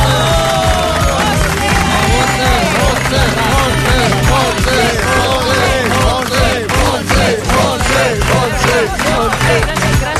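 A studio audience claps and cheers continuously, a dense, loud wash of applause mixed with many excited voices and whoops, holding steady for about ten seconds.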